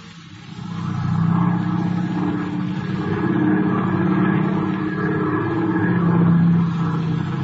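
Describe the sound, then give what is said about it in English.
A steady, loud airplane engine drones throughout, a deep rumbling roar with a humming tone that swells slightly as the plane pulls away. No voices are heard. “Where's Mr. Slattery going on the plane?”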